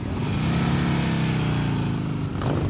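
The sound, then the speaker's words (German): Engines of tens of thousands of motorcycles rumble steadily and loudly at a season-opening motorcycle rally in Kulmbach, Upper Franconia: a dense low idling drone from many bikes at once, with a brief shift in tone near the end and no talking. “Um mich herum zigtausende Motorräder und ihre Fahrer,”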